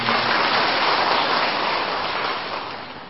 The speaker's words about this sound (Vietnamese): Thôi cho một tràng pháo tay.